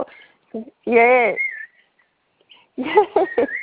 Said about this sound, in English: Can you hear the cockatiel?